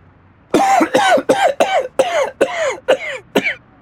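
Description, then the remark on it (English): A man with a sore throat coughs in a rapid, continuous fit of about eight harsh coughs, each following quickly on the last, with no talking in between. “I need something for a sore throat and can't stop coughing.”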